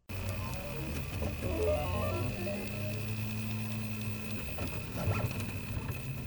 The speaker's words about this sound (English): That's a Prusa 3D printer, making a face shield for hospital workers. A fine needle point is drawing layer after layer of hot plastic on a flat metal plate.